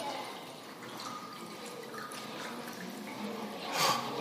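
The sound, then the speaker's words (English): Water is poured steadily into a glass, a continuous liquid trickle and splash with faint ringing tones, ending in a brief louder gurgle near the end. No one speaks. “It was water being poured into a glass.”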